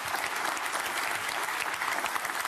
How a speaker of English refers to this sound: And these fucking robots that are applauding, you should be ashamed of yourself. Because I'm sure there are a bunch of anti-war leftists in that crowd.